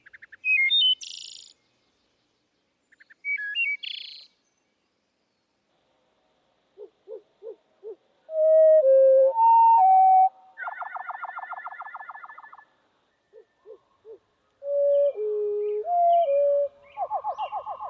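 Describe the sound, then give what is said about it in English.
Two brief, high, rapid bird-song phrases, then the same song slowed way down into deep, drawn-out whistles, separate ticking pulses and a long buzzy trill. No one speaks. “And when you slow them down, you can see that they're actually multiple elements in a row.”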